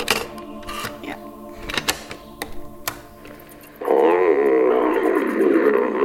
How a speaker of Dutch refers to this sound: Dit is het gegrom van de boze wolf.